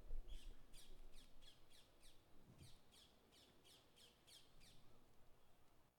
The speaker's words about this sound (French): 19 octobre après-midi, nous sommes partis à l'Arboretum de Châtenay-Malabry pour faire une carte postale sonore, c'est-à-dire enregistrer des sons, plus précisément celles de la nature, comme des feuilles en mouvement. Ou comme les cris des oiseaux.